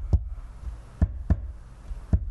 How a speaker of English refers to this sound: That was my heart sound on the table.